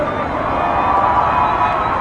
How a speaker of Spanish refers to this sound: Les voy a pedir un fuerte, fuerte, fuerte aplauso para Tenshi